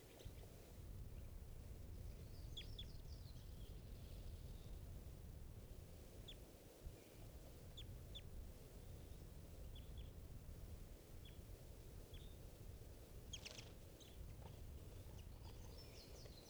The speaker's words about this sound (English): This is an adult bird.